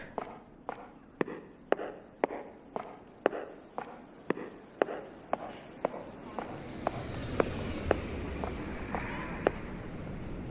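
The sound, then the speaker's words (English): Sharp, clicking footsteps like high heels strike a hard surface at a steady walking pace, about twenty crisp taps, while a low rumbling noise swells underneath during the second half. “Did I mention it sounds like you're wearing high heels?”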